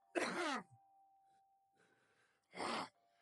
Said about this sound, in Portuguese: Eu preciso tossir. Vai.